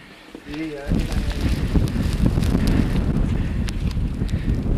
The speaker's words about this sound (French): Changement de décor total. Hein. On est au milieu de la montagne, dans une tempête de vent et de neige.